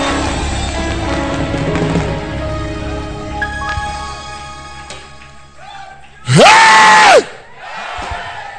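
A large crowd screams and yells together in a dense, echoing roar, then one piercing, drawn-out yell bursts out loudly near the end before the crowd noise returns.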